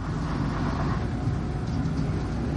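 A bus engine runs with a steady, continuous low rumble and droning hum, fairly loud, with no speech and no breaks for the whole stretch.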